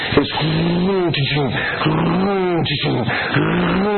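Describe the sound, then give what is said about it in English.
A voice imitates a big truck engine with a heavy load revving through the gears, picking up speed, the rumbling pitch climbing and dropping in several quick cycles like gear shifts, fairly loud. “And he drove it, and he was picking up speed as he was winding through the gears.”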